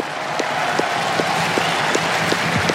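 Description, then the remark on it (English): A large stadium crowd applauds loudly and steadily, giving a special ovation for Juan Carlos Ferrero, coach of Carlos Alcaraz, who won this title 20 years ago, at the request of Fabrice Santoro. A dense wash of clapping with a faint synchronized beat pulsing roughly every half second. “Fabrice Santoro just asking the crowd to applaud Juan Carlos Ferrero, coach of Carlos Alcaraz, who won this title 20 years ago.”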